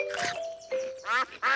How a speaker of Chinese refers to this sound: 看，鸭子们过来了。